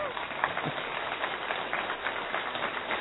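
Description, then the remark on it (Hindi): A crowd claps continuously, a dense, steady patter of many hands with a dull, muffled tone, with some voices blended into the noise. “इसलिए आज आप खुल के ताली बजाएं, क्योंकि हम अपने परिवार में बैठे हैं।”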